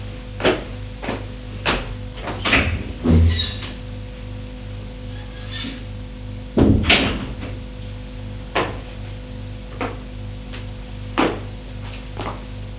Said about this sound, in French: Et voit dans le hall d'entrée Frédéric qui ouvre la porte de la penderie et fait les poches des vestes à Nicolas.